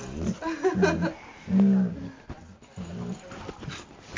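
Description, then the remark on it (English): A female dog whimpers in a series of short, whiny bursts with brief pauses between them, ending in a sudden sharper yelp. “Hey, don't kick the dog.”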